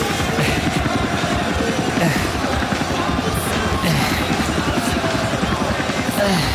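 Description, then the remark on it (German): A helicopter, its rotor beating in a fast, steady chop under a loud, continuous engine roar that stays at the same level throughout. “Ein fucking Helikopter!”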